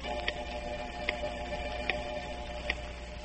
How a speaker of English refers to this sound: Oh, why does that clock move so slowly?